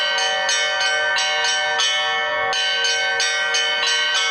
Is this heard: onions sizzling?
no